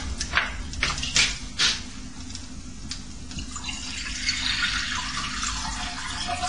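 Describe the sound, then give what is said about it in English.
Tap water runs into a small metal Chinese wok to stew water spinach, starting with a few clanking splashes, then settling into a steady hiss of filling water that brightens toward the end. “Okay, I leave it there for a while, and we're going to stew the spinach, the water spinach. Yeah, to put water.”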